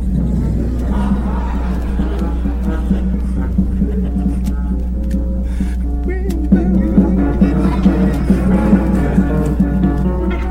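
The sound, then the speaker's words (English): An elongated car's engine rumbles steadily with a deep, continuous low hum while driving up State Street, heard from inside the moving vehicle, with a few faint knocks and shifts partway through. “So I'm going up State Street in this elongated car.”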